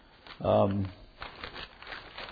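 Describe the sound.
Paper rustles and crinkles softly as pages are shuffled while a person searches for one particular sheet, following a brief voiced hum; the handling sounds come in light, irregular bursts.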